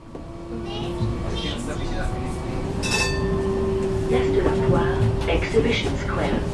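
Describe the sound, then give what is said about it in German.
A tram in Basel rumbles and rattles along its tracks toward the Messe with a steady low drone and a faint metallic whine, with brief clinks and background voices mixed in. “Die Tram rattert Richtung Messe, wo sie ganz in der Nähe wohnt.”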